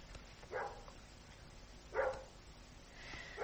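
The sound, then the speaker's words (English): A dog walking up and down barks three times at slow, irregular intervals, each bark short and mid-pitched, heard fairly faintly over a steady low hiss with no one talking. “I think this dog here is lost. It's just walking up and down and barking and barking.”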